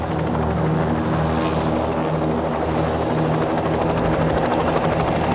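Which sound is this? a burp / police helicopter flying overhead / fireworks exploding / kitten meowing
police helicopter flying overhead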